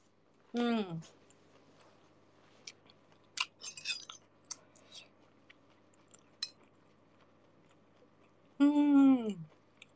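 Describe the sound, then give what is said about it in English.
Crisp crunching and chewing as someone eats crunchy food, irregular sharp bites over several seconds, bracketed by short voiced sounds at the start and end. “Everyone's just like coming in and seeing me eat.”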